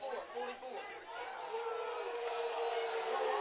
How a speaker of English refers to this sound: You hear the crowd, the Vikings just down in front of us, and they're not happy with that call. Nope.